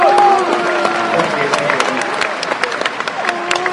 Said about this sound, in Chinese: 那得了，我们给点掌声鼓励一下吧。